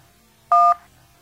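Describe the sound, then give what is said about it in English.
A single telephone keypad tone, a short dual-pitched beep of a button press in a voicemail menu, sounds loud and clear for about a quarter second against near silence, with no talking. “If you want to hear the next voicemail, please press the 1, press the number 2 to save only this message, and press the number 3 to delete this message.”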